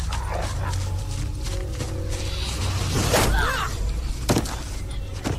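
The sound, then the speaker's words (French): A dog named Croquette barks and yips in sharp, excited bursts, loud, with a busy, noisy background behind it and brief whimpering squeals between barks. “Qu'est-ce que tu fais à mon chien ?”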